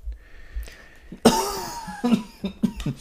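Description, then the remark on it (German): A fit of coughing: one loud, harsh cough after a quiet moment, followed by several shorter, throaty coughs in quick succession, with no talking. “Zum Schluss wird noch gehustet”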